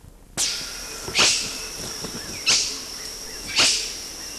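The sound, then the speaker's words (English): Four short, sharp, low-key, low-amplitude barks from a male animal, spaced about a second apart at an uneven pace, over a steady background hiss with no voices. “These are low amplitude barks or quiss.”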